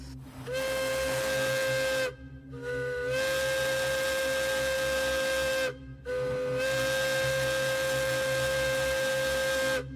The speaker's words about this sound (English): And finally, this is the Hancock air whistle, in use from the 1930s all the way up into the 90s.